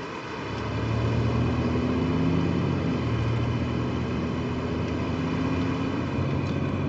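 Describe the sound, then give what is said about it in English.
Steady, loud roar of an armored car driving quickly across a busy, crowded bridge in Baghdad, Iraq, with a low engine drone and road rumble filling the whole stretch and faint hum of surrounding traffic. No voices. “The car has to leave as quickly as possible, and the driver gets out of the way as best he can.”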